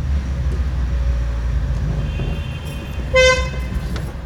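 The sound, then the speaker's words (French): A car horn gives a short, loud honk over a steady rumble of engines and road traffic in Lebanon, with a fainter tonal horn sounding beforehand. “L'instrument de survie au Liban, c'est le klaxon.”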